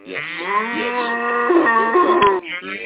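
A single long, drawn-out cow moo, loud, with a wavering pitch that rises and dips before trailing off, heard alone without any talking.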